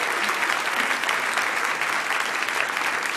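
A crowd claps steadily for a few seconds, a dense, even wash of many hands with no pauses and no voices on top, welcoming a guest who is called up to join the hosts.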